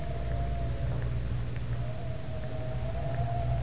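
Wind howls steadily on a windy afternoon at 4 o'clock at the Tower of London, a sustained mid-pitched moaning whistle that wavers slightly in pitch over a constant low, rough rumble, with no voices.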